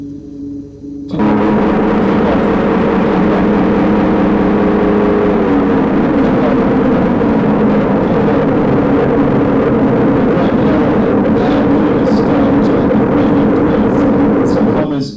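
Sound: bus engine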